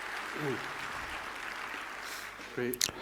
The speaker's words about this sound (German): Applaus bitte.